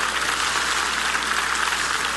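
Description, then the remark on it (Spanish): A church audience applauds Jesus together in a steady, dense wash of clapping that holds at an even loudness throughout, with no voices standing out above it. “Le doy un aplauso a Jesús.”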